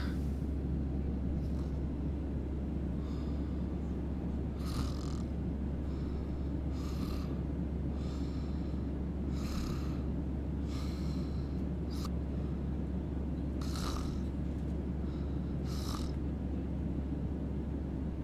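human body sound, snoring

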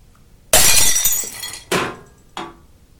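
impact, glass breaking and shattering

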